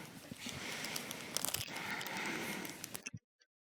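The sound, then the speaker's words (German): Continuous crinkling and rustling of plastic packaging as an experiment kit is unpacked and opened for about three seconds, with a few sharper crackles, then stopping abruptly into near silence. “Als erstes packen wir dieses Experiment mal aus.”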